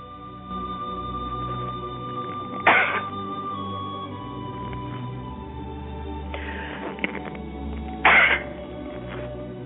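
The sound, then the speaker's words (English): A sudden, sharp sneeze bursts out, followed several seconds later by a second abrupt burst, with a steady low hum underneath and no talking. “Pardon me, I couldn't get the turned off before I sneezed.”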